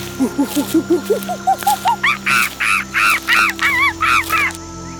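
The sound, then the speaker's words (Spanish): A run of short, repeated bird calls that climb steadily in pitch, then give way to louder, harsher cries in a quick rhythm over a faint steady background hum, birds singing in the distance in a dense, humid tropical jungle. “Siente la humedad en el aire y escucha los sonidos de la jungla, el crujir de las hojas y el canto de las aves en la distancia.”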